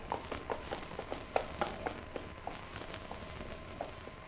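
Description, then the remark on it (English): A ridden horse approaches, its hooves clip-clopping in a steady, even rhythm, fairly quiet, with no voices over them. “Horse come there.”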